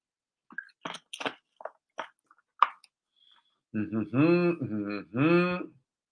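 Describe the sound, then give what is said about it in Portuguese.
Several soft gulping and swallowing sounds, like someone sipping water, come in a short irregular series, then a person starts talking. “Vamos ver se o pessoal falou alguma coisa aqui, enquanto eu bebo uma água.”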